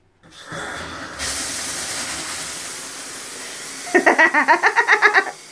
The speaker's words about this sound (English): Okay. Let's see here. Let's go get the shower on.